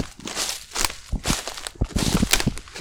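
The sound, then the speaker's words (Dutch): Footsteps crunch along a forest path at a steady walking pace, each step a soft scuffing rustle with no voices over them. “Zullen we een stukje verder lopen?”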